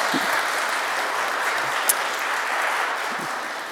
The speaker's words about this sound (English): Let's have a little applause